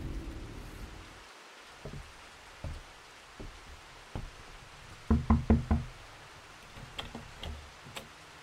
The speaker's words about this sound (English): God, come in, come in. Out of the rain.